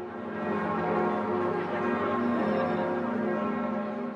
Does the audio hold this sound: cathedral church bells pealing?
yes